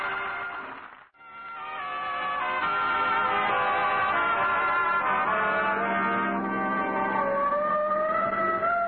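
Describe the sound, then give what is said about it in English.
A siren mounted on the speakers' own car wails loudly and steadily. Its rising and falling tones cut off briefly near the start, then surge back and hold for several seconds. No one talks. “Oh, the siren. Now, that's on our car.”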